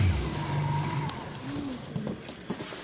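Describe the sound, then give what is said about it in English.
A small outboard motor on a boat going up a small river to a hunting camp near Shishmaref drones steadily, its low hum wavering slightly in pitch as the boat moves along, with faint wind and water noise around it. “On the other side, Tony pilots his boat up a small river to his hunting camp, near several of the sites Shishmaref is considering for a new village.”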